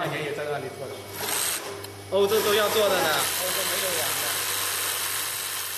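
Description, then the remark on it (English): Sewing machines whir steadily in a sewing workshop near the coastal city of Rimini, with a low, constant motor hum and a buzzy, rattling texture that swells briefly in the middle, while muffled voices murmur underneath. “Inside, a heavy steel door mutes the deafening sound of whirring sewing machines”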